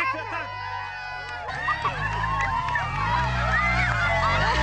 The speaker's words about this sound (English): And the crowd are all out cheering him.